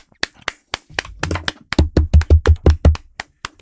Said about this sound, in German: Habe ich jetzt alleine applaudiert oder was? Ich habe auf den Tisch geklopft.